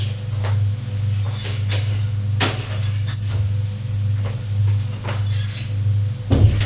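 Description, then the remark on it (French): The servants' back door of a house is being opened, with a few soft clunks and a sharper knock near the end, all over a steady low mechanical hum. No one speaks. “Il va ouvrir la porte de derrière qui est celle des domestiques.”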